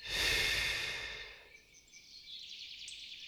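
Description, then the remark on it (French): A deep breath, taken in through the nose and released through the mouth during a relaxation exercise, comes out as a loud airy sigh that fades over a second or so, leaving a soft hiss. No one speaks. “Prenez une profonde inspiration par le nez en gonflant votre ventre et votre poitrine. Puis soufflez par la bouche en les laissant redescendre.”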